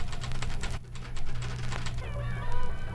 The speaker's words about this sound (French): Les crépitements des machines à écrire d'à côté.